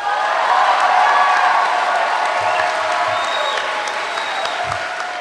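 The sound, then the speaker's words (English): A crowd of 1,500 people jumps to its feet and bursts into sustained applause after a pastor says she is an atheist, dense clapping mixed with cheers and a few high whoops and whistles, staying loud and steady throughout. “The 1,500 people jump to their feet. They hoot and clap for more than a minute.”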